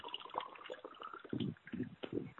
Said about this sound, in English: And who is making all that noise? Waterfall.